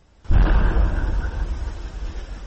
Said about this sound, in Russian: Видеорегистратор автомобиля, припаркованного возле колледжа, зафиксировал звук взрыва.